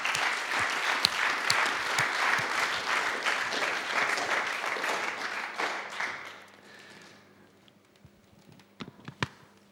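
A crowd applauds to welcome a guest onto a stage, in a dense, steady wash of clapping for about six seconds, then it thins out and fades, leaving a few scattered taps and clicks at the end.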